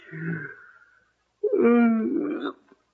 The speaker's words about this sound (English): It's funny, I don't know why I'm yawning. Nerves, I guess.